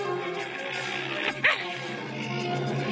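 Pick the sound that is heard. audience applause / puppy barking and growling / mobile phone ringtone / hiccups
puppy barking and growling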